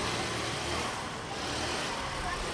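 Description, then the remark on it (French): A small moto-taxi moped engine, a Jakarta moped, runs steadily with a constant buzzing drone over a wash of street noise, with faint murmuring voices in the background, on a sandy street near the market of a historic coastal town. “descend d'un taxi-moto, une mobylette Jakarta.”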